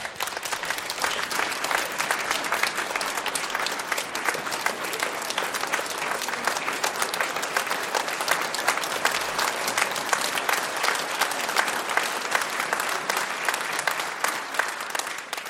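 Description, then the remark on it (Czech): A large audience applauds steadily and enthusiastically for about fifteen seconds, welcoming film director Zdeněk Troška, a dense, even wash of clapping that stays loud throughout with no voices standing out. “Děkuju za krásné přivítání, tleskali jste hezky, opravdu teda úžas, to je jak na Oscara, opravdu teda.”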